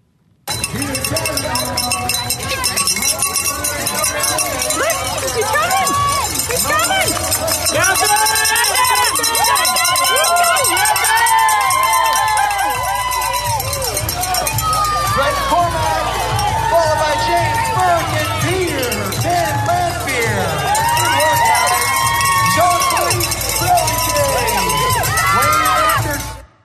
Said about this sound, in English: 1.2 mile swim, 56 mile bike ride, and 13 mile run. And here he is at the finish line as they're cheering him on.